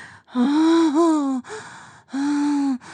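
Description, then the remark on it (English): Heavy, voiced gasping breaths: a long, loud gasp with a moaning tone, a brief catch of breath, then a second sustained gasp after a short pause. No talking. “Oh, you're breathing hard.”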